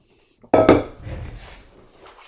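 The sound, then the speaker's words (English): A ceramic coffee cup clinks sharply against a hard surface twice in quick succession as someone takes a sip, followed by a softer rattle and faint handling noises as it settles. No voices are heard. “cushion, stretch my neck, have a sip of my coffee.”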